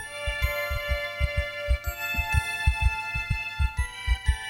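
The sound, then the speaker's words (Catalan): A steady heartbeat with paired low thumps repeating at a quick, even pace, over a sustained tonal hum with faint tinkling, shimmering notes. No voices. “És el batec del cor.”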